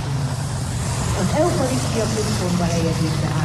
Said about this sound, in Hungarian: Most haladnak el előttünk a hivatalos autók.